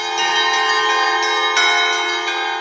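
Church bells peal continuously in a dense, ringing cluster, with repeated strikes roughly every third of a second layering over a sustained metallic hum. Loud, with no voices.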